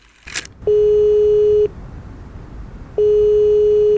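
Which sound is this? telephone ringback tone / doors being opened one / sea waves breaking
telephone ringback tone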